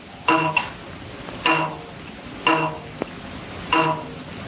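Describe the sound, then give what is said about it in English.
A vibrating telegraph spring is plucked four times at a slow, even pace, the sound with overtones Bell heard on June 2, 1875. Each twang rings with bright metallic overtones that fade quickly, and there is no talking. “And this is the astonishing sound with the overtones he heard on June 2nd, 1875.”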